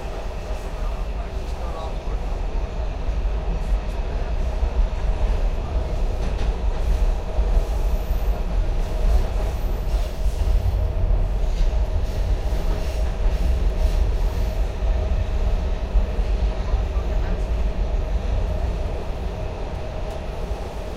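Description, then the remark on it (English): An Orange Line subway train at Eastern Market station rumbles steadily along the rails from the inside, a constant low roar with faint clatter and a steady mid-pitched hum, loud and unbroken throughout. “All aboard, this is the Orange Line train to the ground.”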